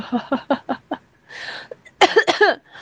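A person who is ill coughs: a quick run of five short, dry coughs, then a raspy breath in, followed by two or three louder, harsher coughs, with no talking.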